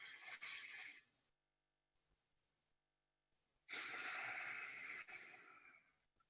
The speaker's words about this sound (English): And then on the out breath, our stomach contracts towards our spine, so that as much air as possible is expelled. So we do that just 3 times. We don't want to do it more than that. And it's okay to make a little bit of breathing noise during that.